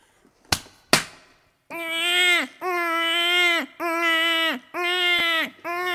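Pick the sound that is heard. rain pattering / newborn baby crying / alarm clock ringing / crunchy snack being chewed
newborn baby crying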